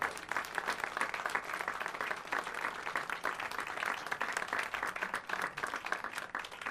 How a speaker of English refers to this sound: And our concert tonight is underwritten by the Burlington Fine Arts League. That means they're paying for everything for tonight. So let's have the round of applause for them.